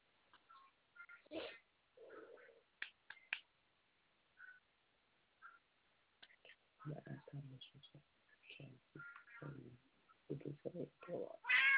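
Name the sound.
cat meowing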